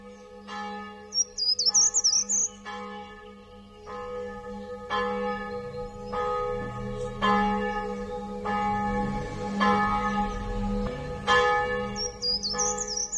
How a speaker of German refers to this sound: Sie hören schon die Glocken läuten.